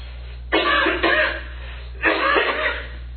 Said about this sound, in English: Okay. Sorry about the cough there.